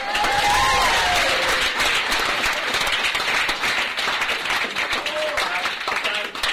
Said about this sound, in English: Don't applaud.